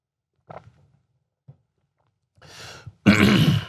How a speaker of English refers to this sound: Did I mention that I'm sick today? So, oh boy, there's gonna be a lot of coughing.